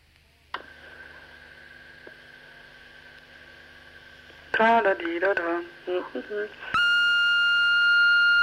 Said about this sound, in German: Es piept. Es hat gepiept. Ja, jetzt red mal. Ja, es hat gepiept eben gerade in meinem Ohr.